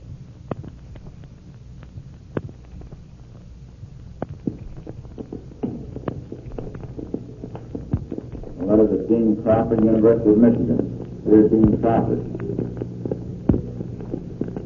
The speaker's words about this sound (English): Now, if you will listen closely, you will hear, over the dictation of the man who made the recording, the sounds of the plane and the crash at the end.